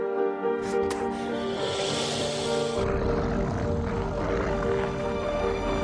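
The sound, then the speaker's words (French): A video game helicopter, shot down with a car, its engine droning steadily with a whooshing rotor wash, loud, then turning into a heavier, rougher rumble about halfway through. “Vous venez de flinguer un hélicoptère avec une voiture.”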